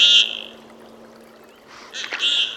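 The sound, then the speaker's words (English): Common goldeneye ducks give courtship calls on the icy waters of Lake Champlain in Vermont: a short, buzzy, high-pitched note at the start, then a louder cluster of rasping calls near the end, over a faint steady hum and light water sounds. “In the icy waters of Vermont's Lake Champlain, common golden eyes are getting hot.”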